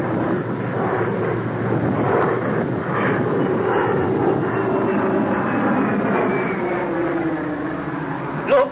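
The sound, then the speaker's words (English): A loud, steady roar of airplane engines fills the whole stretch, with a faint high whine drifting over the rumble, as a plane revs up just before takeoff. No one speaks. “And the plane's about to take off, oh, I'm afraid.”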